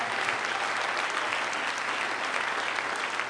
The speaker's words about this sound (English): Give your new brother a hand clap.